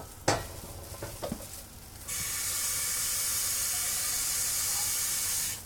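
A few clinks and scrapes of a utensil in a pan, then a sudden loud, steady sizzling hiss as water is added to the hot pan while cooking, continuing strongly until the end.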